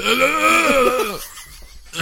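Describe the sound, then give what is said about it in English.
A person imitates a low, guttural scream: a single strained, wavering vocal wail that bends downward in pitch for about a second, then breaks off into near silence. “And it says Cora said that she screamed a low guttural scream when she saw...”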